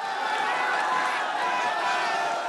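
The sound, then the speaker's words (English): A large crowd roars in celebration at news that Anwar has been acquitted of sodomy charges, a dense, sustained wall of cheering and overlapping shouts that stays loud and steady throughout without a break. “The crowd erupts in celebration.”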